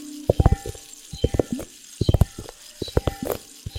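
Liquid-filled globes are handled, producing bursts of quick knocking clicks in small clusters over a faint sizzling hiss, with brief pauses between each group. No one speaks.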